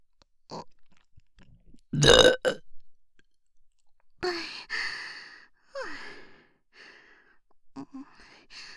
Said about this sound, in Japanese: 連続して大きいゲップは出せないの。ごめんね。でも頑張るから付き合って、お兄。